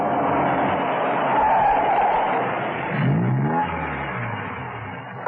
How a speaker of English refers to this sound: An hour later, John Steed drove his Rolls into the yard of the British Cypher headquarters and parked it under the sign that read, Strictly No Parking.